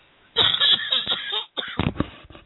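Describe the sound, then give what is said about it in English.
A fit of harsh coughing from someone sick for two days, stirred up by laughing, several rough bursts in quick succession with a brief pause midway, loud with no talking over it. “But that laugh just stirred the cough up.”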